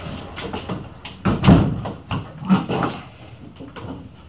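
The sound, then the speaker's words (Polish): A window in a home being shut: a series of wooden knocks and clunks with a brief rattle, the loudest thud about a third of the way in, followed by softer handling bumps. “Właśnie, czy możesz, żeby okno może zamknąć, żeby szum na mnie...”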